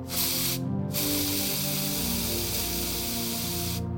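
A fresh can of maximum-strength hairspray sprays in a loud, steady hiss as it is applied liberally to styled hair, with a brief pause near the start and a cut at the end, forming one long continuous burst and a short second blast.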